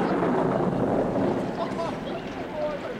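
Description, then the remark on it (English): A tropical storm at the ruined Peking airport roars steadily, a dense wash of wind and rushing noise that barely lets up, with faint murmuring voices buried in it toward the end. “In a tropical storm, we arrived at the ruined Peking airport.”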